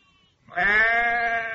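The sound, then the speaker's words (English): A single loud sheep bleat, a wavering, nasal baa that starts abruptly after a brief quiet moment and holds steady for about a second. “He looked after sheep.”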